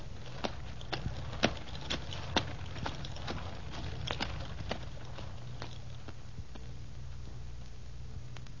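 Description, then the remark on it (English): Donkey hooves clip-clop at a steady walking pace over a low, continuous rumble of a rolling carriage the donkeys are pulling, the sharp hoofbeats evenly spaced, with no one talking. “Keep on going, driver, and open the throttle on those donkeys.”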